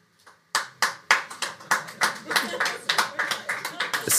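Four people clapping in a cheer poll for those who believe Mainz 05 will not make it, sparse and slightly uneven, the sharp claps ringing out for a few seconds with a bit of faint chatter or laughter underneath.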